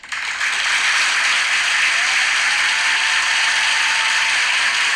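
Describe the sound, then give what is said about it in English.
Dense, steady applause from a crowd, many hands clapping at once in a continuous crackling roar that starts abruptly and holds at the same loud level throughout, with no voices. “I feel like we need to applause more.”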